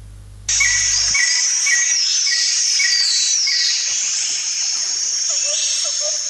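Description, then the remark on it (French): Birds sing over a steady, hissing high-pitched chorus of insects, with repeated short chirps and sliding whistles, then a few lower whistled notes near the end, at Lake Tison, a crater lake in the Adamawa region, 8 km from Ngaoundéré. No one speaks. “Ces chants d'oiseaux nous accueillent dans le cadre.”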